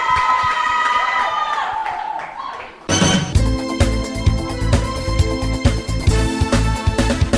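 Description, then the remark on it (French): A crowd cheers and claps with excited shouting for a few seconds, then the noise is cut off abruptly by loud, dense music that carries on to the end. “On peut applaudir pour soi-même.”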